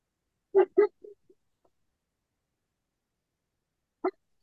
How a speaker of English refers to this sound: Sounds like your dog's feeling that energy too. Yeah, dogs and cats are very sensitive to all this energy.